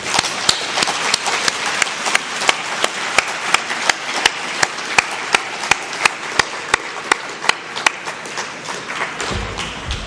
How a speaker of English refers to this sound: And last but not least, I would ask you to applaud all the volunteers who help you throughout this week. Thank you.